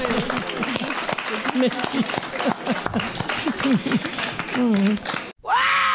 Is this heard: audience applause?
yes